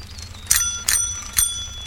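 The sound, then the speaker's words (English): A cyclist's bicycle bell rings three times in quick succession to warn a pedestrian, bright metallic dings with a lingering high tone between them, clear against a low background hum. “If I hadn't heard your bell, I'd have probably walked out in front of you.”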